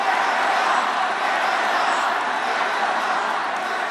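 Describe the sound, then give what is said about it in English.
A large crowd at a political rally in Las Vegas roars and cheers continuously, a dense wash of many voices that stays loud and steady throughout without pausing. “President Trump again threw his support behind his Supreme Court nominee at a rally in Las Vegas last night, and the crowd responded in kind”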